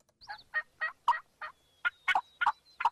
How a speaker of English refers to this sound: This YouTube video shows hunters decked in camouflage calling wild turkeys, trying to lure them closer.